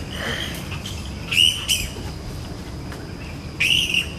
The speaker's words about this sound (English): Me and my sister Edie were wondering, why do bats make weird screeching noises? I hope you like listening to their sounds.